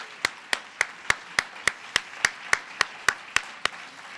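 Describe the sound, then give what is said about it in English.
Applause from an audience for a panel, in a steady, even rhythm: about a dozen sharp, crisp claps spaced evenly over a few seconds, with no voices over them. “Could we have another round of applause for Mika and for this terrific panel?”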